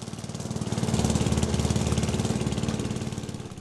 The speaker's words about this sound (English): But I can't wait for my kids to start mowing the lawn, too.